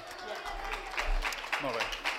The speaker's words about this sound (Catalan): molt i un fort aplaudiment.